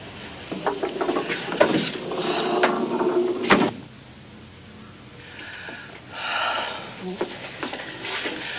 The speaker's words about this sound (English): Shut the door. Please.